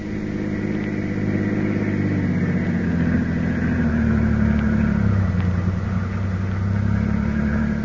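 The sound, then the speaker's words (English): A car engine hums steadily while driving on the West Side Highway, a low continuous rumble with slight rises in pitch as it accelerates, fairly loud with no voices. “I've got my car. We'll go for a drive.”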